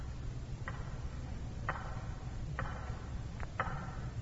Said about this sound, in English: And as he watched the hands of the big tower clock, he could hear it ticking in his mind's ear, as clearly as though it were inches away.